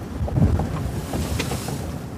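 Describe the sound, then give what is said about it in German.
Steady roar of wind buffeting the microphone over rushing water, as a racing yacht sails fully in the wind, cutting quickly through choppy sea with continuous splashing and hull noise, loud, no talking. “Wir sind voll im Wind.”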